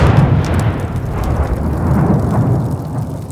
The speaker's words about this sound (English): There was a blinding white flash, and then the fireworks boomed like Hiroshima.